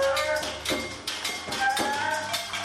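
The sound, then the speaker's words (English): Someone knocks several times on the door of city council, with no one inside, in an uneven rhythm, the raps sharp, with a steady background hum and faint murmuring underneath. “Suitable as I move behind the saxophone player to a knock at the door of city council.”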